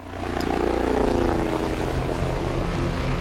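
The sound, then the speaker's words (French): Helicopters lifting off behind trees near a football pitch and a grill in Villa Castelli at 16:50, a loud, steady engine and rotor roar with a constant low throb that fills the whole stretch, sustained with no voices. “À 16h50, autour du grill, près du terrain de foot, on voit les hélicoptères qui s'élèvent derrière les arbres.”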